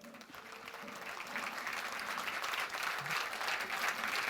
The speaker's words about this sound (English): So, yes, thank you for the applause.